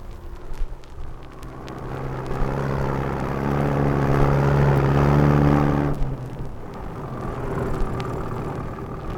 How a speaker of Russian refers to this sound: Утром еще не успеет сойти роса, но полевая дорога уже пылит. Катит по ней с косцами машина.